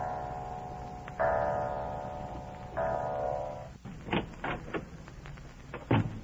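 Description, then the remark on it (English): A clock strikes the hour with two resonant, ringing chimes, each struck sharply and left to hum before fading, followed by a few soft knocks and clicks as a man quietly lets himself into a house. “Drenched to the skin by an unseasonable downpour, he quietly lets himself into the house as the clock strikes.”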